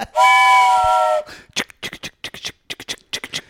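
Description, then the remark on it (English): A loud, steady train whistle sounds a chord-like blast for about a second, followed by a run of short, breathy hissing bursts in an uneven rhythm. “We're taking a little side. You know why? Because all aboard!”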